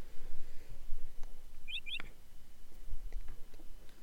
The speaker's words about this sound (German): Hallo Vogel.